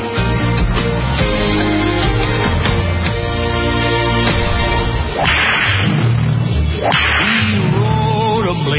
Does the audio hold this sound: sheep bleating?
no